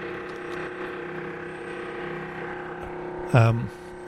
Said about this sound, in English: So I was just distracted by, which you can probably hear as well, the construction noise. They're doing some crazy drilling right over my head here, and I hope that does not make me hard to understand through the radio.